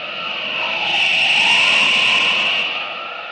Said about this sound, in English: But today, as our story continues, a strange figure hurtles through space, red cape streaming in the whistling wind. Superman speeds to his assignment.